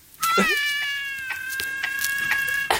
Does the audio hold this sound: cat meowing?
yes